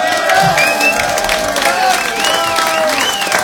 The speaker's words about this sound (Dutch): Geef ze nog een warm applaus.